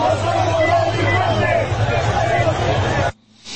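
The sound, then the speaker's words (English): A large crowd, mostly men, yells and hollers in a dense, steady roar of overlapping voices for about three seconds, then the noise cuts off abruptly into near quiet. A barricade of police officers is present. “I mean, this is just wall-to-wall people, folks, yelling and hollering and screaming.”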